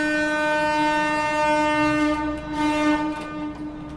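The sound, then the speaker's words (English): A drawbridge horn sounds a loud, steady blast with a rich, buzzing harmonic tone, held unbroken for several seconds with no voices; the bridge operator sounds a long and a short blast before raising the bridge for a ship to pass. “So the first thing I do when I'm ready to start the bridge is I do a long and a short.”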